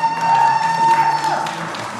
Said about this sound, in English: Tonight we have the We Are Libertarians podcast live and on stage for you. Please give a round of applause